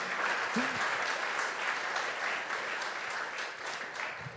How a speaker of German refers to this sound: Die, ja, genau, können wir jetzt schon klatschen.